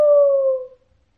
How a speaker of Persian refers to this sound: بچه ها، قوقولی قوقو کردن خروسه تمام خواب از چشمای یاسمن میدوزید و پرتش میکرد بیرون.